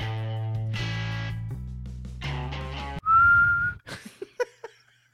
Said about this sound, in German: Wir sind jetzt schon eine Minute über der Zeit und ich glaube, der Schiedsrichter pfeift ab. Okay, Nachspielzeit ist vorbei.